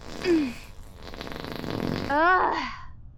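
A couple of loud farts: a short low squeak at the start, a rumbling stretch, then a longer rising, buzzy one near the end.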